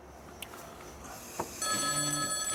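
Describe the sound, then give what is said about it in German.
A couple of soft taps on a smartphone display, then the phone's electronic ringing tone starts partway through and rings steadily to the end as it is held to the ear, fairly quiet and with no one talking. “Felix tippt aufs Display und hält sich das Telefon ans Ohr.”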